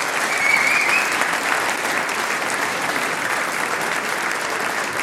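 An audience applauds steadily as a clarinettist is called onto the stage to play with a band at its 40th anniversary celebration: a dense wash of many hands clapping at even loudness for the whole stretch, with no talk over it.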